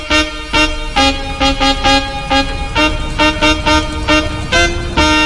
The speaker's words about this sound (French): À part le bruit des voitures, c'est très calme.